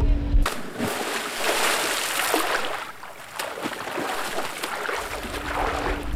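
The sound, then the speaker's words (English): A person plunges into cold water of about 11 degrees, with continuous splashing and sloshing for several seconds and a few sharper splashes standing out, then the water churns on steadily. “Okay, I'm going to put the mic down and just give it a shot.”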